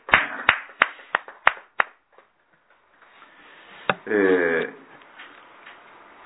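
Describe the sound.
Applause celebrating a man's 83rd birthday at a morning service, about six sharp, evenly spaced claps in a quick steady rhythm, then a pause and a brief spoken voice.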